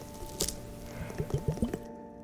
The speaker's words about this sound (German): Einmal hätten wir hier Facial Eyes Globes. Das sind so zwei Kanülen mit einer rosanen Flüssigkeit und Glitzer. Und die machen wirklich ganz tolle Wassersounds.